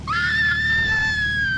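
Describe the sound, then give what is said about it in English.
A single sustained, high-pitched scream from a person, loud, holding steady for over a second before tapering slightly at the end. “I'm going to have to let someone else scream for you then.”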